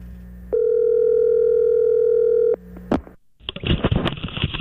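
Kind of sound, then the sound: signal or alarm, phone call ringing out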